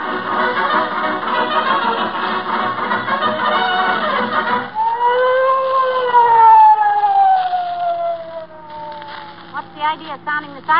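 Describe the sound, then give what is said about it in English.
A police car siren wails loudly as police approach the scene of a crime, its tone rising then sliding steadily downward, following a busy stretch of dense noise and ending with a few short warbling bursts. “Sounding the siren, Officer Mahoney.”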